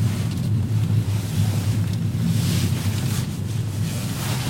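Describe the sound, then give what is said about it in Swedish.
Steady outdoor ambience at a spot right by the water with a jetty and a small hut, on a warm early-summer day, with a continuous low rumble of wind and lapping waves filling the whole stretch, no voices, constant and fairly loud throughout. “En plats precis vid vattnet där de har byggt en brygga och ett litet hus.”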